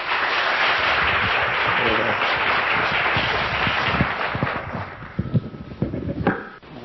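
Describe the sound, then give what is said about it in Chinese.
Warm audience applause welcoming an elder speaker to a class: a steady, dense wash of many hands clapping that thins after a few seconds into scattered individual claps before fading out. “那么我想时间也有相当有限，那么长老已经在这里上了蛮多天的时间，大家非常这个熟悉，所以在这里呢我也不多说这个介绍跟说明，那么我们就热烈掌声来欢迎长老。”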